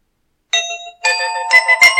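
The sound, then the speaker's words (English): A bell rings out in several quick strikes after a brief silence, its bright metallic tones layering and sustaining as each new hit lands, fairly loud with no voices. “Yeah, I felt that bell coming.”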